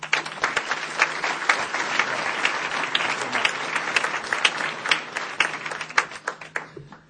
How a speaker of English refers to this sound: Let's give him another big round of applause.